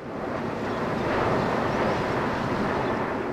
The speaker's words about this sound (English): Airplanes seem to sound louder and fly lower when you're on the roof of a 5-story apartment building.